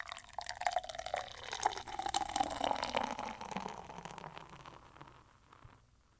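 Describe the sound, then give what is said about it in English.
A citrusy, bitter beer pours steadily into a glass, a gurgling splash with fizzy crackle that rises in pitch as it fills, then tapers off into a soft hiss of foam. “Wow, that was kind of the best sounding pour I think I've done in a while.”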